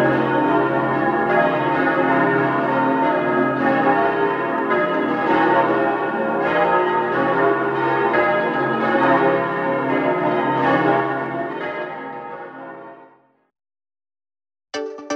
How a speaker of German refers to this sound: Die Glocken von Oberbozen wurden zum ersten Mal zur Christmette des Jahres 1998 geläutet.